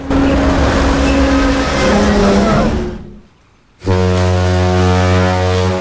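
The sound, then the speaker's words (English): A huge container ship grinds and rumbles loudly as it plows into a beach and comes to rest, then a brief near-silence before a deep, sustained ship's horn blares. “The huge container ship plows into the beach and comes to a rest against Melman's nose.”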